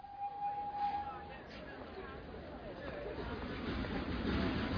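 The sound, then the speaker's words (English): Very crowded railway station platform at Kilchester on market day: a crowd murmurs and chatters over a steady low rumble, with a brief high whistle-like tone at the start and the rolling noise of a train gradually growing louder. “I waited at the station at Kilchester for the train to take me back to Brodhinny. It was market day, and the platform was very crowded.”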